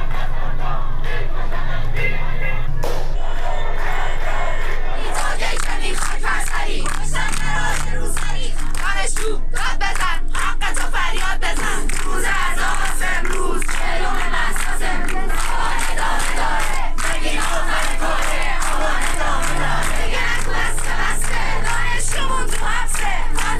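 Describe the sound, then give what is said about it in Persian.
A large protest crowd in Iran chants slogans against the Islamic Republic and its leader, at demonstrations in Saqqez and dozens of other cities marking forty days since Mahsa Jina Amini's death; many voices shout together loudly in rhythmic bursts with occasional whoops and cries. “سقز و ده‌ها شهر دیگر ایران روز دوشنبه 4 آبان در 40 مهسا ژینا امینی صحنه تظاهرات اعتراضی و شعار علیه جمهوری اسلامی و رهبر آن بود.”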